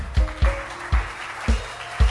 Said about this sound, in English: Clap your hands for them.